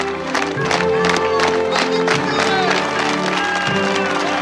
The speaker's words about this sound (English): DeReese spots Yosef, who begins to clap. Kurt watches as everyone around him claps. He joins in.